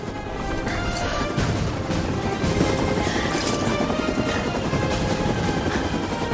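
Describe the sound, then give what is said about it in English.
A steady, loud mechanical roar with a dense low rumble and rapid chopping pulses from a helicopter hovering overhead as ropes drop and a team slides down onto the roof of a plant, continuous throughout with no voices. “Ropes drop from the chopper.”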